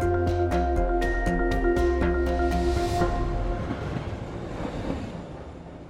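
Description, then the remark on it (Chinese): A train on the Chinese-built standard gauge railway in Kenya, on the Nairobi–Malaba section that crosses Nairobi National Park, rolls along the tracks with a steady low rumble and a regular clickety-clack of wheels over rail joints, the rhythmic clatter fading after a few seconds as the train passes. “中国在肯尼亚境内建造的标准轨距铁路，其中蒙内铁路段贯穿了查沃国家公园，而内马铁路段则是贯穿了内罗毕国家公园。”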